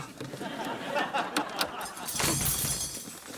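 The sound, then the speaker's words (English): Someone rummages through a car glove compartment looking for utensils, with a few sharp clicks and clattering items followed by a longer burst of rustling and rattling as things are shuffled around. “Oh, check the glove compartment.”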